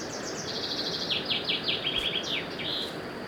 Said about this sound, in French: Il y a un oiseau. Son chant vous arrête et vous fait rougir.